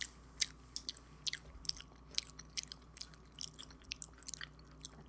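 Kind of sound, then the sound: human body sound, chewing and biting food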